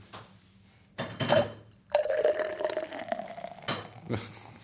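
Water is poured close up in a few short bursts, a gurgling, bubbling stream with a steady tone that rises as the vessel fills, broken by brief pauses; the poured water comes out slightly foamy.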